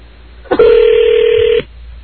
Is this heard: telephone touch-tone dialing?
yes